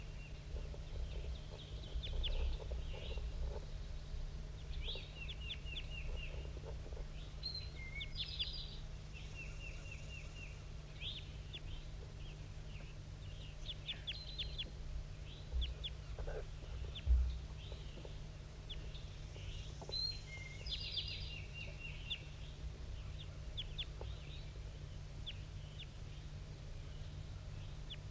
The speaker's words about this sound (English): I can't tell if he's banded or not. Stop. I'm recording at 7:18. That wild male is still up in the top of the dead pine, giving flight calls.